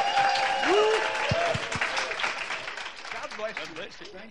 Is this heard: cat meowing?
no